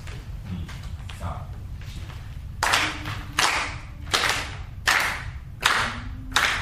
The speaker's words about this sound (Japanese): 最初のテンポを4つ空振りするので、皆さんそのテンポで手拍子していただきます。4拍子をいきます。